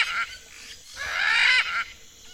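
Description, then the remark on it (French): Harsh, raspy parrot or cockatoo squawks ring out loud, a short call followed by a longer, grating screech, with no talking. “Là, il y a des perroquets. À moins que ce ne soit des cacatoès.”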